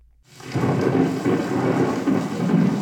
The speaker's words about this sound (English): Enter the Hall of North American Indian at the Peabody Museum, and you're greeted by a recording of thunder and rain from the Great Plains.